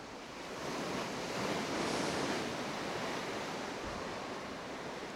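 Steady ocean surf washes in with a broad, hissing roar that swells gently and then eases, fairly loud, with a breath of wind mixed in and no voices, heard aboard a ship at sea.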